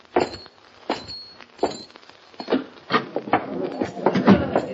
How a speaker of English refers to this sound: Hop Along Cassidy and his pal California ride down the nearly deserted street and head for the Silver Dust Cafe, where they are to meet Sheriff Duncan. They dismount at the hitching rail, walk to the entrance, and open the door.